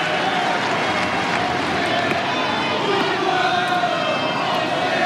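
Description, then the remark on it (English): A large tennis crowd roars steadily during a match between Djokovic and Fonseca, with Fonseca supporters joining in a sustained chant that rises above the dense background noise and continues throughout. “And now the Fonseca supporters are getting their chants going.”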